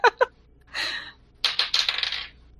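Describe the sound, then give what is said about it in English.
Dice rolled for a constitution save, landing on 16, clatter across a hard tabletop: two sharp clicks, a brief rattle, then a longer burst of tumbling knocks that settles. Fairly loud, with no voices. “Yeah, 16 on the dice.”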